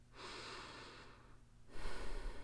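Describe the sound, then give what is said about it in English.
A slow, deep breath drawn in and then let out, two long airy whooshes, the exhale fuller and louder, with no talking. “Well, they sat sipping tea and just breathing in and out.”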